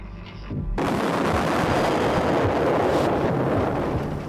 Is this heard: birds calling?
no